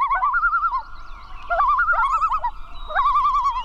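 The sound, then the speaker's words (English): Common loon calling: three bursts of a wavering, quavering tremolo at mid pitch, each rising and falling in quick warbles, loud against a low rumbling background. “By looking out for migrating loons, people can help ensure these submarine-like birds reach their northern breeding grounds safely.”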